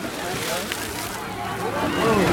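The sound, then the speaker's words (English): Steady sloshing and splashing of shallow water over a sinking dock, now under about 6 inches of water as crowds of people walk on it, growing slightly louder toward the end, with faint voices murmuring in the background. “The dock is now under about 6 inches of water here as people are...”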